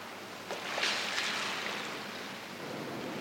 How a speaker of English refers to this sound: They clearly throw something in the pool and then go, what was that?